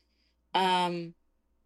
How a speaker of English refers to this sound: do you hear my cat? She has a lot of opinions on this question. She does. She goes, yeah, what do you mean work out, Mom? What do you mean?